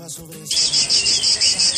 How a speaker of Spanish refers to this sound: ¿Es de las cigarras, Mónica? Sí, un insecto que a pesar de su gran tamaño, oye, pueden llegar a medir hasta 6 centímetros, se camufla perfectamente entre las ramas de los árboles, en parques, jardines, calles